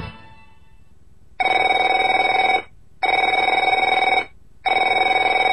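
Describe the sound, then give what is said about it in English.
A telephone rings three times in a steady pattern, each loud electronic trill lasting over a second with short silent gaps between, a bright tone with strong harmonics. “Afraid to answer it? Afraid to answer your door?”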